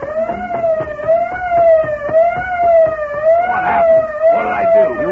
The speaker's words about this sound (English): What's that? Holy mackerel. That fool, he's broken the auto alarm system.